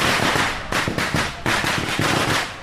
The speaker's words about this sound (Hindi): शुरुआती रुझान में जैसे ही बीजेपी को बढ़त दिखाई गई, बीजेपी के कार्यकर्ता जश्न मनाने लगे, ढोल और नगाड़े बजने लगे और पटाखे की गूंज आसपास के इलाकों में सुनाई देने लगी।